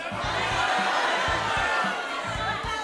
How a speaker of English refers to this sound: So on the count of three, here's what we're going to do. I want everyone to yell out exactly how much money you're donating, okay? One, two, three.